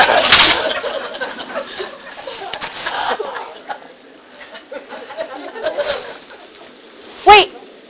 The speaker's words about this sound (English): Are there birds? Yes.